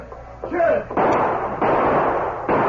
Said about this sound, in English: Then the sheriff opened fire. As he triggered his guns, Doc North breathlessly entered the front door of the office.